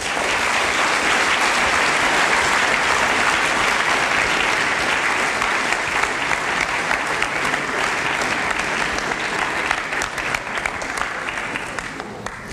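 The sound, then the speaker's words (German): Sustained audience applause welcoming the assembled election candidates, a dense, steady wash of many hands clapping at full volume for about twelve seconds, thinning slightly toward the end. No talking is heard. “Einen Applaus bitte.”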